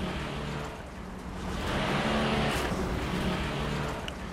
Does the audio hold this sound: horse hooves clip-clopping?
no